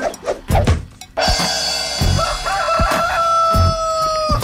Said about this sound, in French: Je le pogne à chaque fois, le poulet. Exactement, le poulet est tout le temps là. Il est tout le temps à mauvaise place, d'ailleurs. Sortez-moi le poulet du studio. Ça commence à être tannant, travailler avec des poulets en studio.